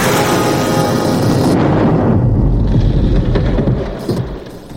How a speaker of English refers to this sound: It passed right over the bare wires, short-circuiting them. A huge explosion ripped the incubation room apart.